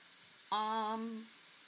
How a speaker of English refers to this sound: As you can tell, there's a sizzle going on with these porkers.